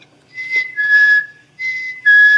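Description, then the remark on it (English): A person whistles an imitation of a black-capped chickadee's song: a clear two-note phrase, a high note sliding to a slightly lower one, repeated twice. Pure, moderately loud, with no talking. “So Phoebes have this kind of rough, feebry song, and the chickadee has this very clear, whistled, Phoebe, Phoebe.”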